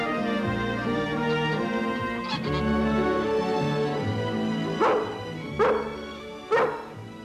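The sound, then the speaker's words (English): A pregnant dog whines and yips excitedly, then lets out three sharp, loud barks in quick succession near the end, with no talking. “You're gonna have puppies, and you have to take it easy.”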